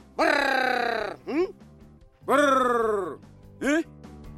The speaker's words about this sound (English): Members of the Yao tribe in Mozambique have a trick up their sleeve when it comes to hunting for honey. They recruit birds to help. The honey hunters make special calls to attract the appropriately named Greater Honey Guide bird.